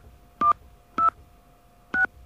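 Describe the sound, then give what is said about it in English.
Three telephone keypad tones as NBC's home phone number is entered after an automated line asks for a 10-digit home telephone number. Each is a short dual-pitched beep, the first two closer together and the last after a longer pause, with a faint steady hum underneath. “Please enter your 10-digit home telephone number beginning with area code.”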